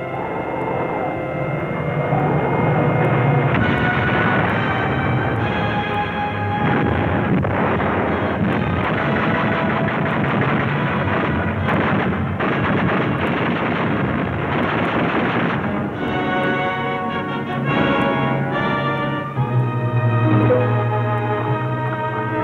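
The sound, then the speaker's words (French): A loud, continuous roar of attacking Soviet warplanes' engines with a droning, shifting pitch, mixed with rumbling battle noise and bursts that could be gunfire, sustained throughout without letting up. “Les avions soviétiques attaquent.”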